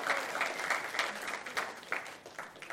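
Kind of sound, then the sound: crowd, audience clapping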